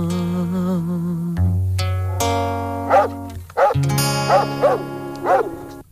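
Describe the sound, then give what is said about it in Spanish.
Dogs bark in short, rhythmic yaps within a well-known song about dogs played on a radio show, over sustained synth and bass tones; about five or six punchy barks land in quick succession in the second half, clear and up front in the mix. “La conoce todo el mundo, es la canción de los perracos.”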